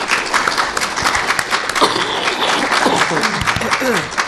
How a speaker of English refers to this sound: Well, everybody, let's give Gigi Edgley a warm round of applause.